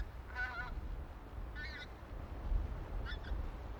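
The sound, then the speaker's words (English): Departing geese honk in three separate bursts at Sleach, Wester Ross, in autumn, each a short cluster of harmonic calls, fading over a low, steady outdoor rumble. “Departing geese, and the foxgloves not yet over.”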